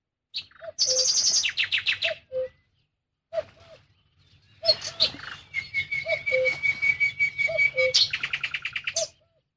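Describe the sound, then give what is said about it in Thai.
Small birds hopping from branch to branch chirp at dawn in lively bursts of rapid, high-pitched notes and trills, with a sustained whistled tone in the middle, a brief pause, and a soft low hum underneath. “นกเล็กๆกระโดดโลดเต้นด้วยความสำราญจากกิ่งนี้สู่กิ่งโน้นและจากกิ่งโน้นสู่กิ่งนั้นพลางก็ร้องเหมือนเสียงทักทายกันด้วยความสุขสดชื่นรับอรุณรุ่ง”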